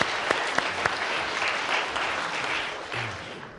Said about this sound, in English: Okay, right, so thanks very much. Round of applause to our situationists.